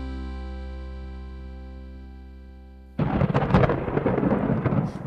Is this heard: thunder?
yes